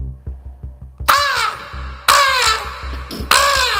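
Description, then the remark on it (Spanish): A person's voice imitates a seagull but produces three loud, harsh, crow-like caws, each falling in pitch, spaced about a second apart over a quiet, steady low pulsing beat. “… imita a una gaviota.”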